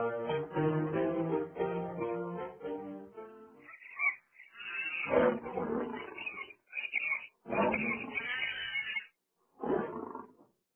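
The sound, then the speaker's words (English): A lion walking back and forth roars, starting with a long deep rumbling growl and then several loud, rough bursts separated by short pauses. No one speaks. “Hey, look at the lion walking back and forth.”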